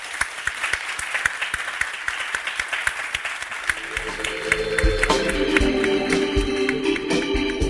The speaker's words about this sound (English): Huge round of applause, please